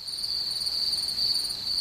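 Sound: cricket chirping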